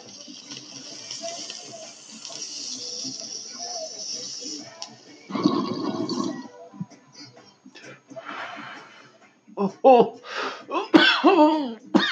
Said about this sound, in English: Oh, I don't want to cough because the microphone's right here.